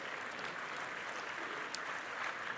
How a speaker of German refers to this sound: Können Sie mal klatschen, es ist lieb gemeint, aber so viel Zeit haben wir nicht.